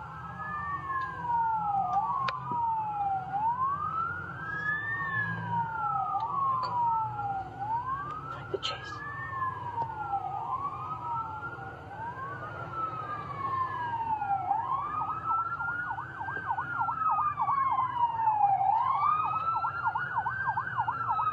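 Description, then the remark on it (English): Overlapping police and fire truck sirens wail steadily, rising and falling in repeated sweeps, with a faster warbling siren joining partway through over a low rumble of traffic, loud. “See, even the police, they're going crazy.”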